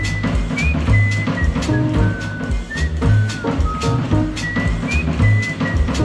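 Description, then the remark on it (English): Someone whistles a simple, thin melody in short phrases with little pitch slides, heard over a steady, busy low rumble of background noise. “I heard somebody whistle.”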